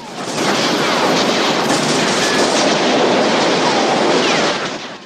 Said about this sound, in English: The bullets penetrate the bus windscreen and ricochet off the steel plate. The officers continue to spray the bus with buckshot and bullets.